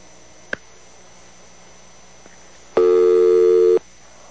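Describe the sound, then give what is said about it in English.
A sharp click, then a faint tick, followed by a loud, steady electronic tone lasting about a second as a radio call-in phone system connects a caller from Chicago, over low background hiss. “I'm going to try this mighty phone system again.”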